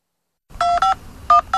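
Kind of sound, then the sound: signal or alarm, telephone number being dialed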